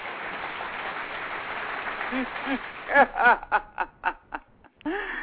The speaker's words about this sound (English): I give all of my guests a round of applause, so I'm gonna give you a round of applause.